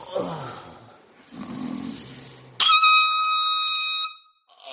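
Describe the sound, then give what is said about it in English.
A single loud air horn blast cuts in abruptly and holds steady for nearly two seconds with a harsh, buzzing tone, preceded by low murmuring and rustling. “Hey, can you hit me with the air horn one time?”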